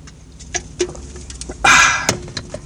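Someone takes a swig of Arizona iced tea: scattered small clicks and taps, then a short, loud, hissing gulp, followed by a few more faint clicks with no talking.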